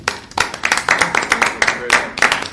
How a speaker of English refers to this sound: Round of applause.